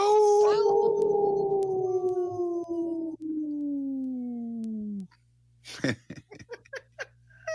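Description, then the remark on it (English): Three people howl together like wolves in one long, loud, slowly falling wail lasting about five seconds, followed by scattered laughter and breathy chuckles. “We're all three howling.”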